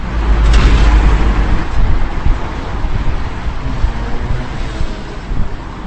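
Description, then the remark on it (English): Busy road traffic roars steadily across the six-lane Nusle Bridge in Prague, a loud, continuous low rumble mixed with wind buffeting the microphone, strongest in the first couple of seconds, with no voices. “Completed and opened in 1973, the bridge serves as a major artery for six lanes of north-south traffic, and even the city's metro.”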